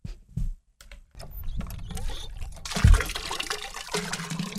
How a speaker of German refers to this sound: Ohne sichtbare Anstrengung pumpt er mit der rechten Hand Wasser in einen Eimer.